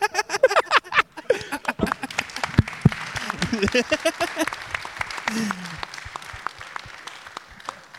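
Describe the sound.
An audience bursts into applause, dense clapping that stays steady for several seconds before gradually thinning out, with a few voices mixed in underneath.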